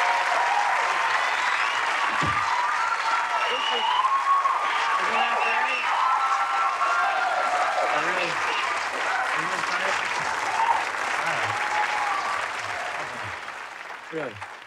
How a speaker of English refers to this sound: Don't milk the applause like that.